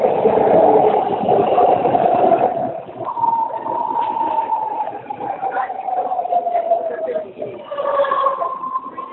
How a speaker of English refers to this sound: Sound like the train. Sorry, you guys. I'm so sorry. Okay. I knew it was the train. Yeah, she's taking the BART.